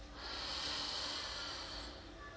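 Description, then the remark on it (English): A slow, deep breath drawn in during a guided meditation breathing exercise, a soft, steady airy hiss that swells and lingers for a couple of seconds, with no talking. “Breathing in”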